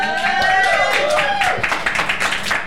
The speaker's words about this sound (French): On veut des applaudissements pour encourager le doc.